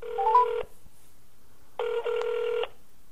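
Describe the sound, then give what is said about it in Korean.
A telephone ringback tone sounds twice, each burst buzzing steadily for under a second, separated by a pause, clear with no one speaking, as a man watching television calls his wife, who has already left for work. “텔레비전을 보다가 먼저 출근한 부인에게 전화를 합니다.”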